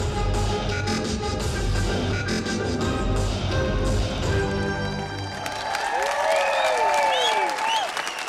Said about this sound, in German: Inzwischen sind alle vom Hocker. Nicht enden wollender Applaus, Jubelschreie.